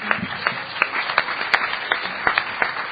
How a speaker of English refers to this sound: I did pretty good. Sixth in the world, I think. In our competition. Obviously not everyone in the world would come to our competition. That gets an applause right there.